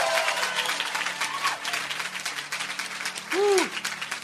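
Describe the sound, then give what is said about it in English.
An audience applauds to give God a hand, a dense, steady wash of clapping that fills the whole clip, with a brief cheer or whoop rising over it near the end. “Come on, let's give God a hand.”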